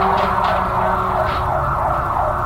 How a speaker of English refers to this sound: I'll just wait for this siren.